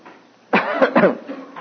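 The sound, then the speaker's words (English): Audience members cough together on request, several overlapping coughs bursting out at once in a fairly loud flurry that quickly trails off into scattered softer coughs. No one speaks. “Let's all cough together and it'll be over.”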